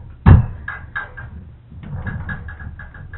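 A solid wooden thump, then a run of light rattling knocks and creaky clicks from a wooden chair shifting and creaking under someone's weight, with no voices.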